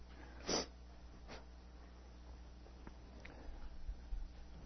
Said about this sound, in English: I don't usually sniff while I preach, but I've got something going on, so I'm under the weather, so I'm going to be affected by that, I feel. So if you need to sniff, you can do that too. We'll all be in the same boat.